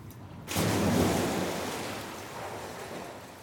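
After a brief hush, an ocean wave surges in with a loud rush of foamy water, then slowly recedes into a steady hiss of surf. No voices.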